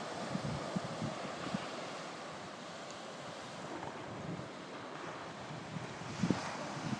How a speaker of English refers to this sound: That were a good one. Oh yeah, that's a good wave.